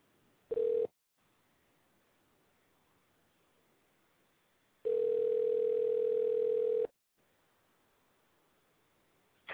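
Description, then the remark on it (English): A telephone line tone sounds as a call is placed to a guest of a show: a short steady beep, then a longer two-second tone of the same mid pitch, with faint line hiss between them and no talking. “who is waiting for this phone call to happen.”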